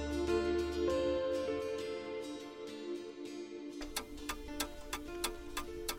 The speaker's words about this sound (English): The clock is ticking and the tea is on.